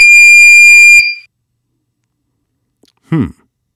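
signal or alarm, electronic beep tone

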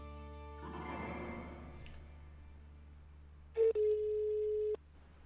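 signal or alarm, telephone call ringing tone

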